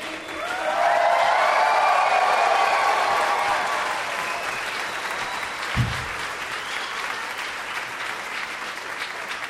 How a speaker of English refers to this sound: That was amazing because singing it yourselves enabled you to not lose the clapping. The beat never got lost because you got to sing it at the pace you need to make the clapping fit.